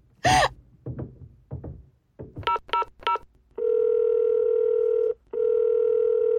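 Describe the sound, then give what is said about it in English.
A sharp gasp and a few soft breaths, then three quick beeping keypad tones as a woman dials the emergency number 999 on a telephone to call the police, followed by a long, steady, loud ringing tone that pauses briefly and resumes. “I'm calling the police.”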